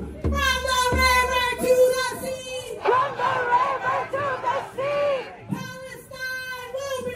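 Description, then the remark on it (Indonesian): Thousands of demonstrators protesting in front of the US Congress against the war in Gaza and aid to Israel shout and chant together in loud, rhythmic bursts, the overlapping cries rising and falling with brief dips between phrases. “ribuan demonstran sejak pagi melangsungkan unjuk rasa di depan Kongres Amerika”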